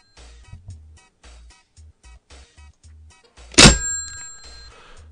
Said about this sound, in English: Hold on. That deserves a bell slam.